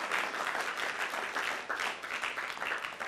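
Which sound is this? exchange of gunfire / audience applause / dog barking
audience applause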